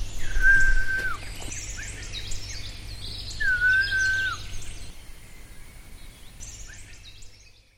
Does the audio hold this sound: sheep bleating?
no